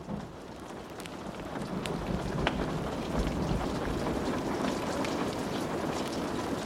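Steady rain patters densely on a surface while low thunder rumbles and rolls underneath, the storm building slightly louder after the first couple of seconds, with no voices present.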